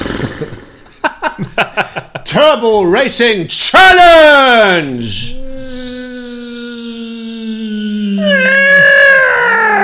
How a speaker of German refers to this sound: Aber wir haben ein... jetzt kommt's. Jetzt bitte den Jingle einspielen. Danke, wir haben ein weiteres Pferd im Endless Running Stall.